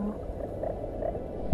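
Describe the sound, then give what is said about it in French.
Clownfish barking underwater during a dispute, recorded with submerged microphones: a few short, low-pitched pulsing bursts over a steady murky rumble, ending with a louder thump-like burst. “Comme l'aboiement de poissons clowns en pleine dispute.”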